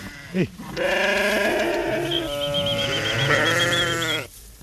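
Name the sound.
sheep bleating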